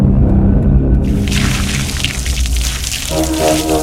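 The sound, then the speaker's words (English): Water pours and splashes in a loud rush lasting about two seconds as a man pours it over an unconscious man's head and torso on concrete, over a deep, sustained musical drone that carries on after the splashing stops. “He pours the water over Logan's head and torso.”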